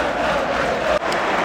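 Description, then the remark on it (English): A stadium crowd of football supporters roars and cheers in a dense, sustained wash of voices as it is announced that Erik ten Hag is going to speak, loud and steady with a brief dip before the noise swells again. “Big cheer when it said Erik ten Hag is going to speak.”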